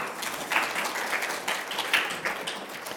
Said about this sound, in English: Thank you. Can we give them all a round of applause?